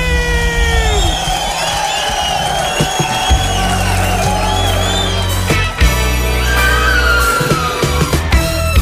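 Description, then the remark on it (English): A large crowd screams and cheers loudly and continuously, with high shrill voices rising and falling over a dense roar that never lets up. “Somebody scream!”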